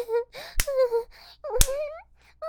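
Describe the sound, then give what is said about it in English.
Two sharp, loud slaps on a person's skin land about a second apart while the person is also being choked, surrounded by breathy vocal sounds and gasps from a voice. “You're choking me and slapping me.”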